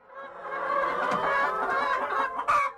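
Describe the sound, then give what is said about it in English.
A crowd of hens clucks and chatters continuously inside a barn on a farm with 600 chickens, many overlapping calls at a steady, moderately loud level, with a louder squawk near the end. “All those noises they're making, they're saying, we want to lay eggs, we want to lay eggs.”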